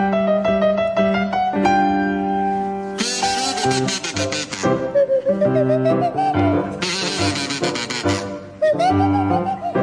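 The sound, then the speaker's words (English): A bouncy rendition of the Mexican Hat Dance played on kazoo and swanee whistle, with buzzy sustained notes and swooping, sliding pitches over a steady accompaniment, loud with no talking. “a rendition of the Mexican Hat Dance to feature Jeremy Hardy on the kazoo and Tim Brooke-Taylor on the Swanee Whistle”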